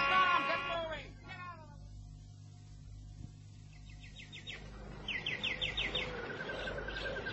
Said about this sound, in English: The feathered kind. The ones that live in cages and fill this room with song. They bring joy to me, you know.